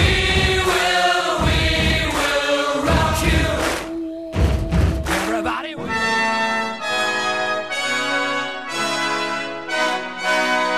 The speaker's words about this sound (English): seems to take its principal melody and its kind of stamping, thump-thump rhythm from a little section of Aaron Copland's Fanfare for the Common Man.